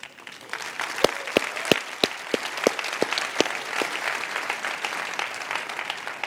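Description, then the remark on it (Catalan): A crowd at the Sitges 2021 International Fantastic Film Festival of Catalonia applauds steadily for the historic cinemas of the venue, a few sharp, distinct claps standing out near the start over the dense, continuous patter of many hands. “En aquesta pantalla han passat moltes pel·lícules, també en el Retiro del Prado, un aplaudiment també per als cinemes històrics d'aquest lloc.”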